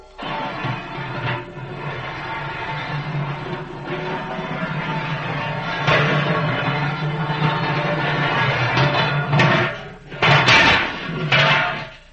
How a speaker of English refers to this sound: Let's get this wretched door open. Try it the other way. No, not that way. That way.